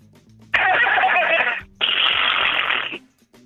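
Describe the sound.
A caller on the phone imitates a horse neighing: two loud, raspy, buzzing bursts of about a second each, separated by a brief pause.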